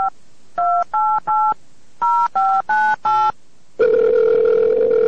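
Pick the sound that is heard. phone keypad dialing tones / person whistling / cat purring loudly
phone keypad dialing tones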